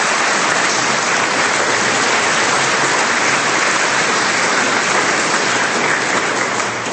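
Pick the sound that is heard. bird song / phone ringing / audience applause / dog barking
audience applause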